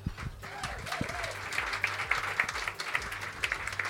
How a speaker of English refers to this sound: So I'm so excited to give him a warm round of applause